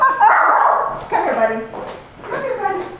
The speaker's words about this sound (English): Come here, bud. My dog has something to say. Hold on.